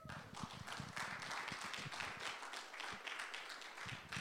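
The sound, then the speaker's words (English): An audience claps steadily as two guests are invited up to speak, a dense patter of many overlapping hand claps that stays even in loudness without speech over it. “Please give them a clap.”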